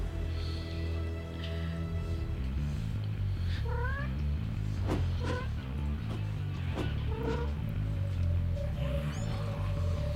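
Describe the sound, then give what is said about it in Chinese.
A cat yowls and meows repeatedly, rising wavering cries spaced a second or so apart, over a steady low rumbling background with no talking. “呢条片肯定得，因为有猫”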